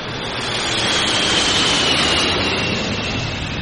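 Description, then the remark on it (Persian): A loud, steady roar of Mirage military jet aircraft fills the air in Egypt in October 1981, watched by President Sadat, swelling slightly in the middle as if passing overhead. It's a broad, rushing engine noise with no voices. “دیری نپایید که در اکتبر سال 1981، تنها با گذشت یک ماه از دستگیری معترضان، به دست چندین تن از سربازان ارتش مصر، آن هم در لحظه ای که سادات متوجه هواپیماهای میراژ اهدایی غرب بود، کشته شد.”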